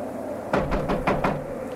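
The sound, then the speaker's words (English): Five firm, hollow raps on a cabin door at 3 in the morning, landing in two quick bursts of three and then two, loud and sharp over a quiet background hum, with no voices. “I'll knock.”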